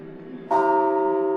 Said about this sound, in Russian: нам наглядно это демонстрируется при помощи колокольного звона. Это сигнальная система «Созвать в храм».